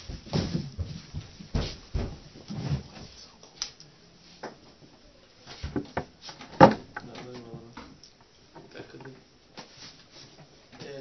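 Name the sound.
door being opened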